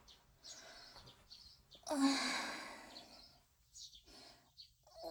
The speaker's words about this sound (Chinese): 好烦啊，一直啾啾啾啾啾啾啾的，这些鸟到底要叫到什么时候？